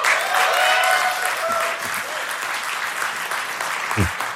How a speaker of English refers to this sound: Who's applauding? So with the Creators Update, and the millions of others Windows 10 now, there's probably a lot of bloggers there. They're so enthusiastic.